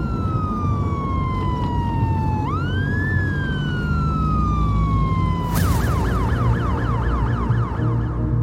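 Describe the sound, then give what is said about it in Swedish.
A police patrol car siren on Dexter Avenue wails loudly after the police spot a stolen black Mercedes and switch on their blue lights, sliding in long slow sweeps before switching abruptly to a rapid yelping warble, over a steady rumble of engine and road noise. “Det dröjer inte länge innan de båda får syn på den stulna Mercedesen och slår på blåljusen.”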